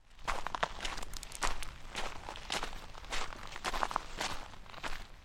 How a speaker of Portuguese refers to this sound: O que o terceiro ouviu foram passos.